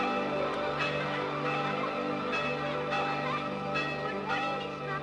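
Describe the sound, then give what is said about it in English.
A teacher rings a handbell as the school bell while pupils hurry to class, ringing repeatedly in a steady, swinging rhythm, its bright, overlapping metallic tones hanging in the air with a continuous ringing wash, fairly loud. “Mr. Jones rings the school bell as pupils hurry to class”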